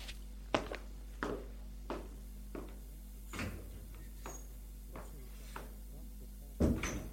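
door being closed

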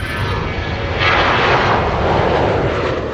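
airplane engine

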